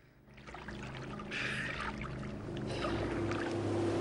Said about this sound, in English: The boat speeds towards them.